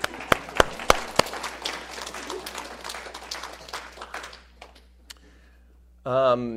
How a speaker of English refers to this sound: Let's give him a round of applause, right?